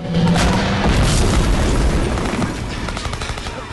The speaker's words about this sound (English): He watches a tank trundle up and bomb the flats. Thick black smoke spews out from the front entrance.